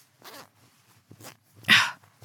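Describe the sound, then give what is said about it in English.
A pants zipper being unzipped: three short rasping bursts, the final pull loudest and brightest, with no voices. “zipper.”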